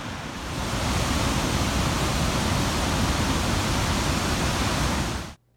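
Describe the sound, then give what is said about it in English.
A steady, dense roar of rushing water from the Dettifoss waterfall in Iceland fills the air loudly and evenly for several seconds before cutting off abruptly. No voices are heard. “Right, but and so I'm standing in front of this waterfall, and I want you to watch it for a few seconds.”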